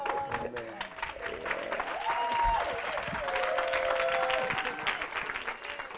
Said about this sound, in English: Ladies and gentlemen, let's put our hands together even as we welcome on stage pastors.